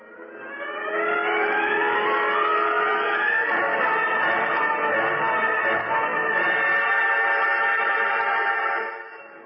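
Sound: car speeding away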